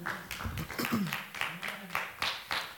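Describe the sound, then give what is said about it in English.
An audience clapping their hands after a teaching, a steady patter of overlapping claps that carries on throughout, with faint voices murmuring underneath. “Did you enjoy the teaching today? Clap your hands.”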